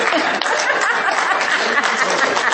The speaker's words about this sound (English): Okay, so I'm glad you clapped for me because that's what we do in kindergarten too.